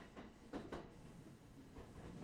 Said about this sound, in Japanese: ずーっと電車にガタンゴトーンガタンゴトーンって揺られてたから眠たくなっちゃったのかな。